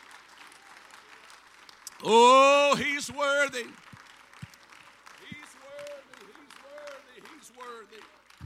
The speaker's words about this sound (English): Can we just clap our hands and worship the Lord for a moment?